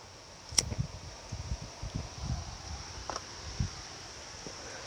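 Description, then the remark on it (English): Gusty wind buffets a microphone in low, rumbling bursts, mixed with a steady faint hiss and light rustling outdoors. No one speaks. “And it's windy as shit.”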